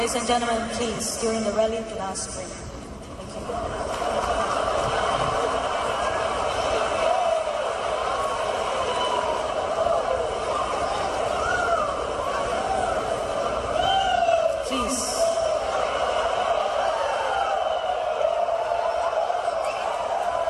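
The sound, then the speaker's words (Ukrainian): A large local crowd at a tennis match jeers a 19-year-old player, keeping up a loud, continuous din for twenty seconds, with scattered shouts and whoops rising above the mass of overlapping chatter, prompting the umpire to intervene. “Відчуття задушливості її тривимірній втраті швидко повернуло насмішку з боку місцевого натовпу, змусивши суддю втрутитися.”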